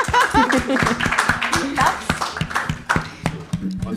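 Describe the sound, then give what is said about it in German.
A crowd claps steadily for several seconds as a man at the bar is called up to join, a dense patter of hand claps with scattered voices and a bit of laughter mixed in underneath. “Bitte kommen Sie zu uns. Ein Applaus.”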